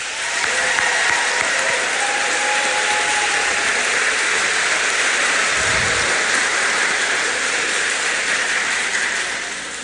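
A big round of applause from a crowd at Fort Recovery High School, welcoming a teacher chosen by the senior class to give a send-off message: dense steady clapping that fills the full ten seconds at a strong, even loudness with no voices rising above it.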